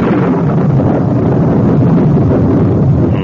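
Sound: storm wind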